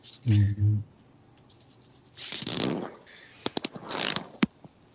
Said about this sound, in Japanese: 誰がチャックを閉めてるの